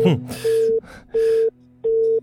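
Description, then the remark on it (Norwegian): A telephone busy signal as a phone call fails to get through: three evenly spaced beeps of a steady tone, clear as if through the handset, with people talking over them. “Her kommer vi ikke fram.”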